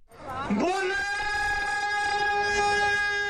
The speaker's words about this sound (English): Saturday, a run was kicked off with a traditional Sikh call.